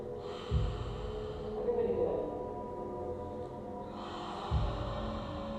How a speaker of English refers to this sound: So it's a smooth, steady, rhythmic, almost like Ujjayi, but split the inhale into two parts. And if you could put your hand up, imagine you're breathing into a mirror. You want to fog a mirror, right? So you go like this.